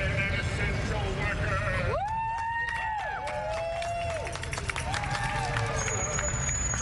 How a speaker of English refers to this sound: It started to attract a crowd down on the street now.